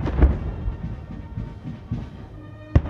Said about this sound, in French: Emmanuel Macron et son épouse ont été accueillis par le président américain en grande pompe et avec chaleur. Oui, Emmanuel et Brigitte Macron accueillis au son de la Marseillaise et par 21 coups de canon.